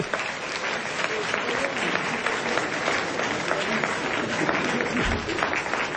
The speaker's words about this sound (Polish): To jest największy gest miłości. Oklaski za tę miłość.